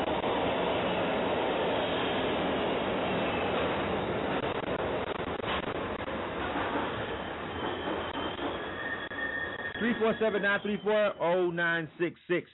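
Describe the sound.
A subway train roars past, its loud rumble and metallic wheel screeching filling about ten seconds before fading, with a voice starting to talk at the end.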